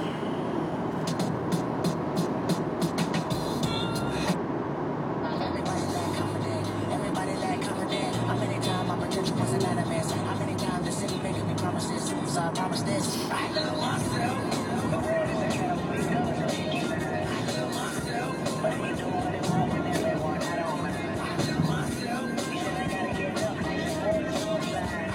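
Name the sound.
road traffic noise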